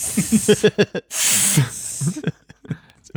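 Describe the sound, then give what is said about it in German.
A voice draws out a long, loud hissing S like a snake, roughly half a second of steady hiss set between bursts of ordinary speech. “Ich hätte sehr gerne ein gemaltes Bild von einem Schlangenoptiker, auf deren Tafel wirklich nur laute Esse drauf sind.”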